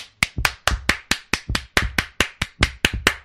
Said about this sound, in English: That's a sarcastic clap, by the way.